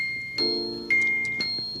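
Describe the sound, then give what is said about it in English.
Daniel's clock in the Neighborhood of Make-Believe ticks steadily, about two crisp, ringing ticks per second, each leaving a brief metallic resonance. It's moderately loud, with no voices. “And there's Daniel's clock.”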